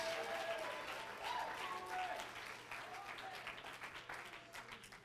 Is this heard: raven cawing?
no